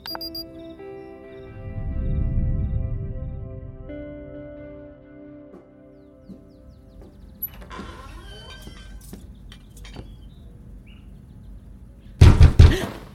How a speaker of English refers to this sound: Oh, sorry, I should have knocked. I did, but just not on the door.